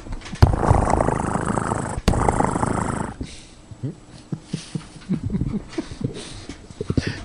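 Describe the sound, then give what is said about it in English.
During a cat tribute on the show The Reverend Is In, a person imitates a cat with a loud, rough growling snarl lasting about three seconds, followed by quieter short voiced sounds that resemble talking. “But you are good at making these cat sounds.”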